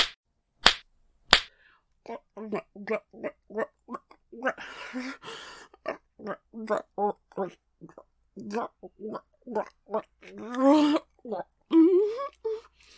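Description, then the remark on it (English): Two sharp, loud slaps land on a person's face in quick succession right at the start, crisp, followed by a long stretch of a person's voice making continuous vocal sounds. “Come on, slap me more.”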